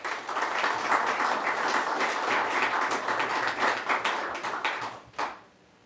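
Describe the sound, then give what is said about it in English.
A crowd applauds two people being honored for five years of service, a steady, dense, crackling clatter of many hands for about five seconds, then the clapping thins out, one last clap sounds, and it falls quiet. “Let's give them some applause.”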